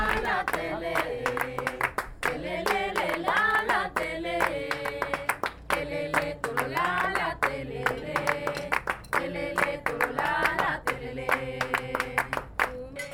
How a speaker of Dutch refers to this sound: Con este se toca tambour coreano, que es aquí donde estamos, que es la capital. Sí, daar spelen we dus de tambour coreano mee. Ja, hetzelfde instrument als in Curaçao.